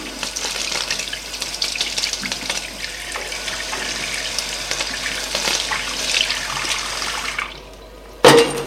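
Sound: tap water running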